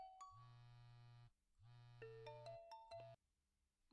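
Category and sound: signal or alarm, smartphone ringtone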